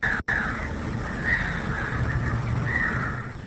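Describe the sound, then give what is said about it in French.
Birdsong from the film Mukokia, made by The Gorilla Organization at the Chabirumu protected site: a few recurring mid-pitched chirping phrases over a steady, fairly loud background hiss, with a brief cutout near the start and no talking. “Chant d'oiseau dans le film Mukokia, Mukokia qui signifie bienvenue à Kinande.”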